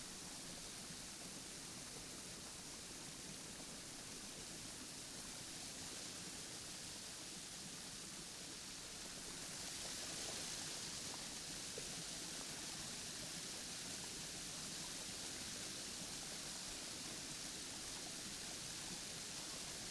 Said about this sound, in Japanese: 水の音大きくて気持ちいい。